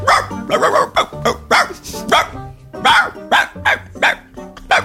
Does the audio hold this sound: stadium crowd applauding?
no